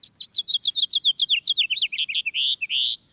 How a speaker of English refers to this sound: A typical house finch song has a raspy edge and tumbles forward in a jumbled series of notes. Especially during breeding season, the song has a sharp, buzzy note, like at the end of this one.